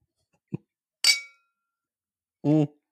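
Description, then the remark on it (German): A single bright clink of glasses touching in a toast, sharp with a short ringing decay, preceded by a soft thud and followed by a brief voice. “Jetzt halt dein Maul und trink. So, auf die Liebe.”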